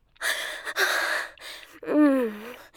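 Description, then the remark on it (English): A short run of quick, breathy gasps, three sharp airy intakes, ending in a brief voiced whimpering sound that rises and falls. “I can just hear it in your voice. Those quick little gasps.”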